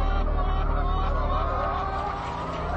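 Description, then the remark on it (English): A crowded mass of caged hens at a factory farm clucking and squawking all at once, a dense, unbroken din that stays loud throughout, with no voices. “She is left to suffer the constant physical assault of her cage mates as they climb over her body.”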